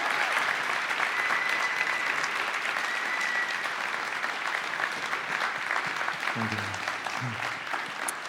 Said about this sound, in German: Lass uns mal unsere Leiter ehren, die so treu dem Ganzen immer wieder Schub gegeben haben. Danke euch. Danke. Genau, lass uns einen Applaus geben.